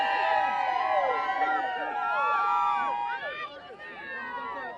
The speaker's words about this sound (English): All right, guys, let's hear it. Give us some cheers.